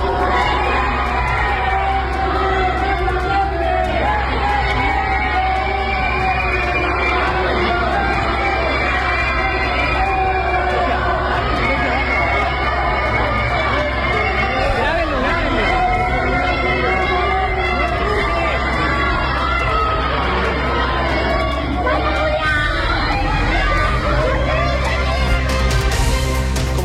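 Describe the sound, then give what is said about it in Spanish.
A large crowd of attendees and students at a Faculty of Law shouts protest chants against a congresswoman continuously, a dense, loud wall of overlapping voices with rhythmic yelling throughout and no pause. “Son gritos, distintas consignas en contra de la diputada.”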